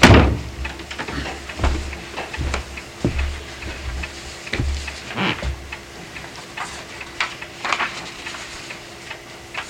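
A door is pushed shut, with a solid thump at the start followed by scattered clicks and light knocks from the latch and frame over a steady low hum.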